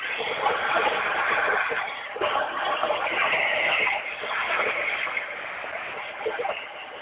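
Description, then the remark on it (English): Water is poured out as a libation to the north during a ceremony, in a steady, splashing stream that runs for about seven seconds with small surges, fairly loud and continuous, with a faint murmur of voices underneath. “And finally, I pour libations to the north, and I say Ashe.”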